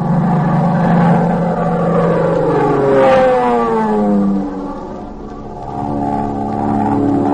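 A propeller plane's engine drones steadily overhead as it circles above a landing field after dropping flares, its harmonic hum bending downward in pitch midway, then easing slightly quieter before swelling again. No one speaks.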